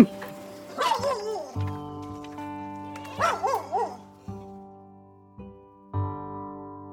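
Dogs bark and yip in two short clusters, one near the start and another midway, over a steady droning tonal background that shifts in blocks.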